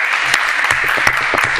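Steady audience applause, a dense wash of many hands clapping at an even, fairly loud level throughout, with no voices standing out above it.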